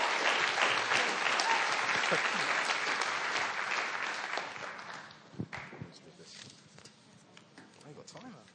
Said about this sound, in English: Let's give her a big, big round of applause.